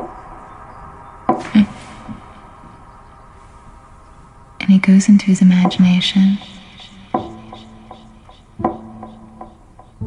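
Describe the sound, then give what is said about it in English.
A man speaks over sharp, evenly spaced clicks, with a quick flurry of rapid knocking taps in the middle before the slow, steady ticking resumes. “And when he opens them, he doesn't hear ticking anymore.”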